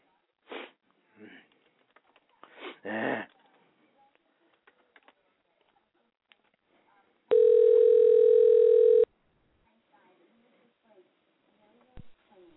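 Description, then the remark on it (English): After someone hangs up the phone, a steady, loud electronic telephone tone drones for about two seconds following a few brief handling clicks and rustles, then cuts off abruptly, leaving quiet with a faint click. “You just think you can click the phone down on me like that?”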